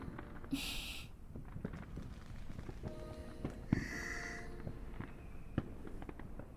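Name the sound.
fireworks exploding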